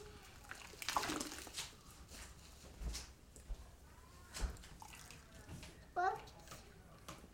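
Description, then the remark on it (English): Water splashes and sloshes in irregular bursts as a quilt is being washed and scrubbed, while a child's voice chimes in briefly near the end. “There's an awful lot of water everywhere, I know that much.”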